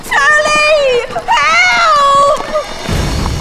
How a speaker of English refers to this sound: Derwin could not discern the source of the yell, but it seemed to come from somewhere very close at hand